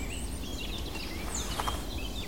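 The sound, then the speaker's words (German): Sharp woodpecker scolding alarm calls sound faintly in the morning, with several quick chirps overlapping other birdsong above a steady low outdoor rumble. “Da wird der Schimpf der Spechte.”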